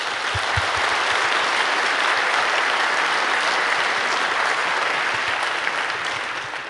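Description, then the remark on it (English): An audience at the CCC conference claps steadily to welcome speakers from Reporters Without Borders, a dense, sustained wash of applause lasting several seconds at even loudness before tapering slightly at the end, with no voices over it. “Please give them a warm round of applause.”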